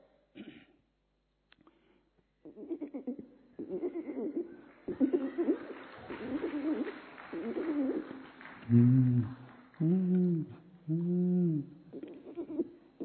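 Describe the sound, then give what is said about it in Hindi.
A person imitates a pigeon's cooing with a series of low, throaty, rolling coos, growing louder toward the end, with a few breathy sounds between them. “कबूतर।”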